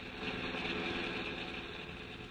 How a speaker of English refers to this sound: have no knowledge of what's taking place above Storm Creek as they travel along a forest highway in the pickup truck.